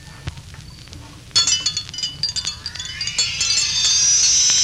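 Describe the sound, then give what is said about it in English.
Dr. Carter's dinner gong sounds at nightfall after a quiet, rumbling start. It is struck repeatedly so its bright metallic ringing builds into a dense, shimmering wash that grows steadily louder to the end. “There's Dr. Carter's dinner gong.”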